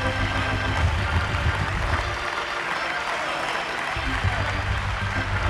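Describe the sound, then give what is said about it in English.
A large crowd in a building stands and applauds steadily to thank God for Jesus, the dense clapping at an even, loud level with a low rumble underneath, with no speaking voice on top. “That'd be a good place for everybody in the building to stand up and applaud and thank God for Jesus.”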